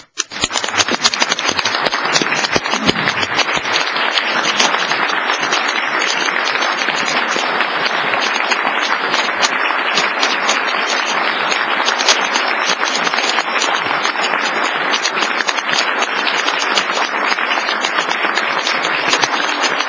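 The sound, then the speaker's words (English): At a public meeting, a crowd applauds a station manager for his quick response at an emergency. The applause holds steady for about twenty seconds, a dense, even wash of many hands clapping at a constant loud level with no voices breaking through. “Today, we applaud”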